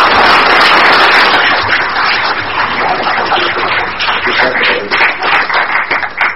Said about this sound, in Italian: Per questo vi chiedo un applauso.